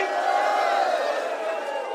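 A crowd at the West Fest event roars and cheers in a sustained wall of noise, with shouts and whoops rising over the dense, steady din for the full two seconds.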